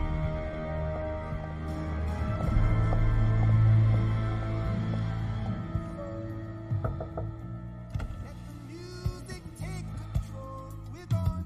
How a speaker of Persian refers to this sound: موزیک به این خوبی چرا قطع شه؟